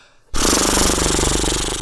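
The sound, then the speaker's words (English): A person blows a sustained horse-like lip trill, relaxed lips flapping in a rapid, even rattle that starts abruptly after a brief silence and stays loud for over a second. “If your lips are really, really relaxed, that they vibrate and flap instead of making the buzzy sound.”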